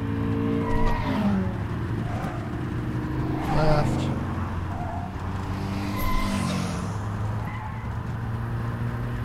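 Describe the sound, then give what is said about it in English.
Steady engine drone from video game cars as the player dodges traffic, with a few short tire skids and squeals breaking through, while a man talks briefly over the continuous driving noise. “So I'm just dodging cars right now.”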